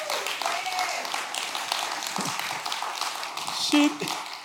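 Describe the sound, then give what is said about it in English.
A church audience applauds a woman who read the scripture, a steady wash of many hands clapping at an even loudness, with a few sharper taps and faint voices mixed into the dense patter. “I want you all to give another round of applause.”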